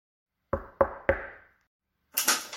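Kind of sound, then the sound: household object, knocking on a door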